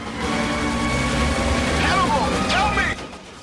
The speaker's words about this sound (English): The planes jockey for the best tactical position.